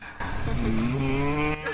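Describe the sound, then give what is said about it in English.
A single long, low moo, drawn out for nearly two seconds with a steady, slightly rising tone, most likely a human voice imitating the bellowing of cows coming toward Vrindavan. It is fairly loud, with no other sounds. “Then they hear the bellowing of the cows, moo, low mellowing.”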